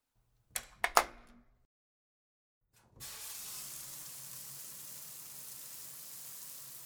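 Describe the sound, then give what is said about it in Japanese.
A couple of sharp clicks and knocks, a brief pause, then a shower bursts on into a steady, loud, hissing rush of running water that continues to the end with no voices. “とりあえずシャワー浴びたい。”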